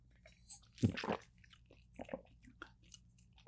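Mouth sounds of someone sipping water: a sharp slurp and gulp near the start, followed by a few softer swallows and lip noises, otherwise quiet.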